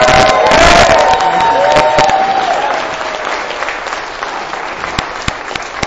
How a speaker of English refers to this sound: Round of applause for Mr.